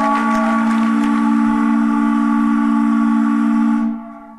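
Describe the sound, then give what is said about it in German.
A single loud, deep foghorn blast sounds continuously for nearly four seconds, a steady harmonic drone that then cuts off and fades away; no one speaks. “Das längste Nebelhorn der Welt.”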